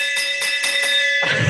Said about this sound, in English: Bam! I'm ringing the victory bell on that one.